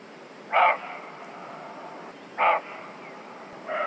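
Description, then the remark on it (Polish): Three loud, hoarse barks from a roe deer, evenly spaced about two seconds apart, each short and rough-edged, standing out over a faint steady background hiss with no talking. “A może gdzieś pomiędzy traw albo drzew usłyszymy głośne szczekanie? O, właśnie, jest. Należące do sarny.”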